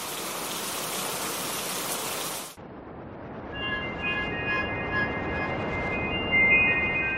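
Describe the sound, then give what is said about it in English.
Heavy rain roars in a dense, steady hiss, then cuts off abruptly into a duller, muffled downpour with faint sustained high tones running over it. “I raced to my car in the heavy storm to shake off the horror.”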